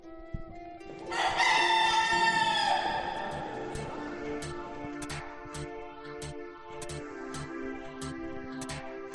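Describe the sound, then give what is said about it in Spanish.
A rooster in the rooster area of a cathedral in Spain lets out one loud crow lasting over a second, followed by a steady background hum and a series of faint, evenly spaced clicks. “Bueno, pues ya me he trasladado al otro lado de la catedral, desde la zona de los gallos”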